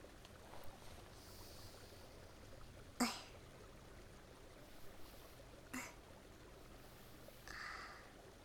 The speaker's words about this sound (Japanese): 耳を澄ませば、小川のせせらぎか。